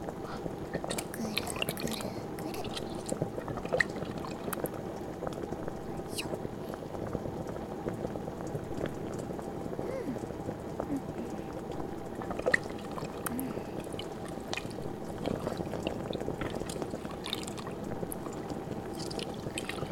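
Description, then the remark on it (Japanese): Dashi broth bubbling in a pot over high heat with a steady liquid churn and occasional clinks, as something is slowly stirred through it; a voice speaks over the simmering throughout. “お出汁のプールにきちんと浸かったら、強火でこのままゆっくり混ぜ混ぜよ。”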